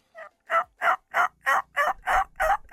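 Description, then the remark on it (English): A person imitates a seductive hen turkey call with their mouth alone, using no device, producing eight quick, evenly spaced yelping notes in a steady rhythm, fairly soft, with no talking. “So that's just a slight seductive turkey call.”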